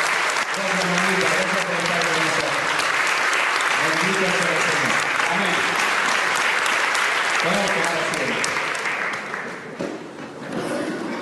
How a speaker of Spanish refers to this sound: Le damos un aplauso a nuestra mamá de Jesús.